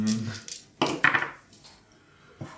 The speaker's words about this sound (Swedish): Du ska vi slå tre tärningar. Vi kör om två krediter, utterjävel.